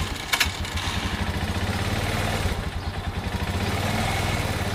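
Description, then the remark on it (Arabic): A motorcycle engine runs steadily, its low throbbing idle pulsing in a fast, even rhythm with a brief rattling clatter near the start and no voices. “الجدير بالذكر إن الشرطة في أجاب ألقت القبض على طفل عمره 13 عام وهو يقود دراجة نارية الأسبوع الماضي وأودى به إلى الحبس.”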